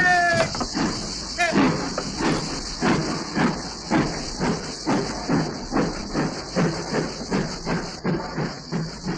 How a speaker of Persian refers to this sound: قطار حرکت.